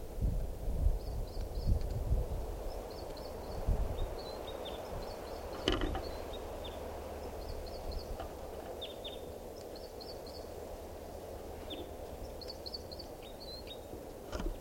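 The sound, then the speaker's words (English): Bird calls and song: a female bird calling and a male singing, perched near 387. Short, high-pitched chirping phrases repeat every second or two, fairly faint, over a steady low rumble of wind-like background noise, with no talking. “Now perched near 387, that's her calling, and him singing, and I'm pointing at the female.”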